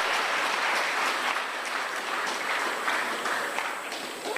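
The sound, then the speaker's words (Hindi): Sustained applause from a large crowd in a hall in Madhuban at a Diwali gathering, cheering a birthday, a dense, steady patter of many hands clapping at once for several seconds with no voices above it. “लौकिक अलौकिक, तो जोरदार तालियां उनके लिए।”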